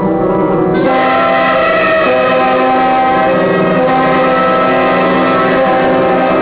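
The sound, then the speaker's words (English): A loud, sustained diesel locomotive horn blares continuously for several seconds, its layered chord tones holding steady, with no talking over it. “Suddenly, a shiny new engine with a loud diesel horn came up to the crossing.”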